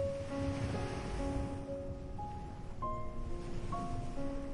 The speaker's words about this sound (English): As you step closer, you begin to hear the water. Gentle waves rolling in. Soft water meeting the shore. A steady, calming rhythm that seems to belong to this place alone.